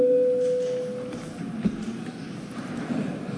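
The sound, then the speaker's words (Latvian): A parliamentary voting bell, called for before a vote on an energy supply cost support bill in its second reading, sounds as one steady, moderately loud electronic tone lasting about a second, then cuts off, leaving low hum and a few faint shuffles and thumps. “Lūdzu zvanu.”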